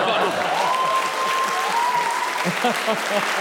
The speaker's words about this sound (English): Please, can we have a huge round of applause for the lawyers?